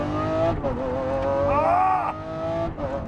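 A Lamborghini car being driven by Rami drones loudly and steadily, its pitch rising sharply in a revving surge midway before settling back into a strong, continuous roar.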